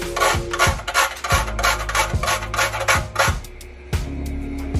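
Nutmeg being grated into a pot boiling with cinnamon sticks and cloves: a quick series of rough, raspy scrapes in a steady back-and-forth rhythm, fairly loud, over a low simmering hum, with no one speaking.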